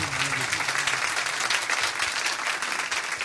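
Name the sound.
audience clapping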